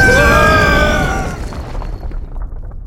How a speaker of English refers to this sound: Okay, now's the part where we's jump! Jump! To avoid the explosion.